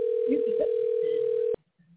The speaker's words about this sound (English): Somebody making a phone call on the air. So let's hear who he's calling.